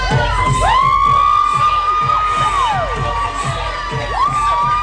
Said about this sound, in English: Those are parents howling. Those are women howling.